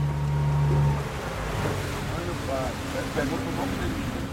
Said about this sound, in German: Wir verlassen das Schiff und fahren auf das offene Wasser hinaus. Die Flussufer verschwinden. Die Wellen werden höher und die Strömung ist so stark, dass man nach einer Weile vergisst, in welche Richtung der Fluss eigentlich fließt.